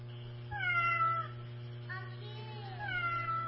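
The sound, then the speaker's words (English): A cat meows three times in a row, each call a drawn-out, rising-and-falling wail, over a steady low hum. “Yeah, sounds like a cat, huh?”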